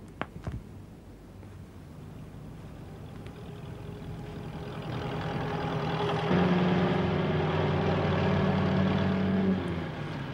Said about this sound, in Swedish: Det är en sjöstjärna som har fastnat i motorn. När Skalman har tagit bort den så går bilen igen.